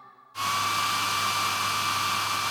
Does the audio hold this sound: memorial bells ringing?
no